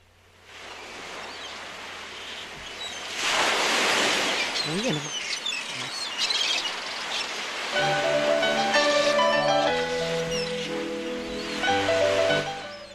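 Water gushes from a tap in a steady rushing hiss that swells and lingers, during the preparation of a roasted pumpkin cream with prawns, while a voice and some tonal background sounds come in over the later part.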